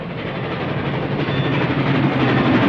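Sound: train running on rails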